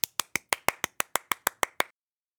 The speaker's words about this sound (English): Clap with me. First, listen to my claps, and then you do the same. Now let's give ourselves a round of applause.